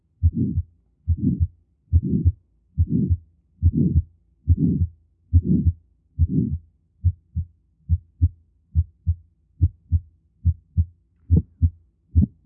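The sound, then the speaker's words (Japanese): A heart auscultation recording: a steady run of low heartbeats, the early beats thickened by a short, harsh systolic ejection murmur after each first heart sound, later beats turning into crisp, separate thumps in an even rhythm. No voices. “これは短い、しかし荒々しい収縮期の雑音が聞こえていますね。これは駆使性雑音です。”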